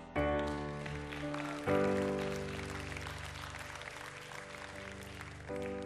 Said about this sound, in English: I pray that your clap isn't the last response to the call.